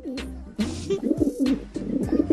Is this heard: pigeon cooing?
yes